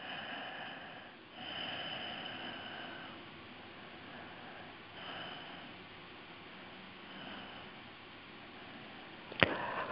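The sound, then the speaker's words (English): A person yawns, while focusing on the corner and edges of the jaw, with long, breathy exhalations that swell and fade in several slow waves, ending with a brief sharp click. “And then something's releasing because I'm yawning.”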